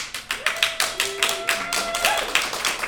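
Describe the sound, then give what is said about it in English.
Audience clapping for an actor just introduced, a steady run of sharp, evenly paced claps lasting about three seconds, with a faint sustained tone drifting underneath. “Well, they're clapping anyway.”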